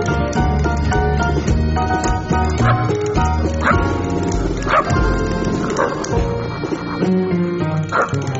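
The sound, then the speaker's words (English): Dan Barker, host of Free Thought Radio, mimics a dog, letting out several short bark-like yelps at irregular intervals over dense, loud music that plays throughout. “And, of course, that was Dan Barker barking.”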